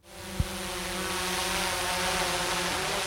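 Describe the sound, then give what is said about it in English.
An aerial surveillance drone's propellers spin up into a steady, buzzing whir that stays loud as it lifts into the air, guided by an 18-year-old operator with a hand controller, with a brief thump near the start and no voices. “An aerial surveillance drone lifts into the air.”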